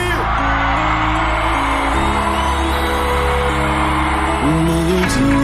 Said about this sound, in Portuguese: Cadê o gritinho do Esporte aí?